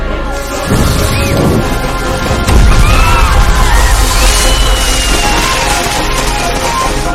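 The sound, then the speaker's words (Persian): Fireworks explode: loud booming bursts go off, one around the first second and a heavier blast a couple of seconds later, followed by a dense rumbling, crackling wash that continues to the end. “آدم آتش بازی رو نمیبینی؟”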